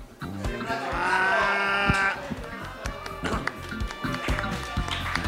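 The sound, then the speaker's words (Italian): A person imitates a donkey's bray with one strained, nasal call lasting over a second, loud and close, followed by scattered tapping and clattering. “Un asino sui binari cosa fa? Un asino? Sui binari deraglia.”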